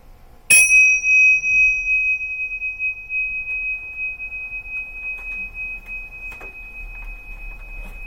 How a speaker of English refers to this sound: When you hear the sound of the bell, let the sound bring you out of meditation.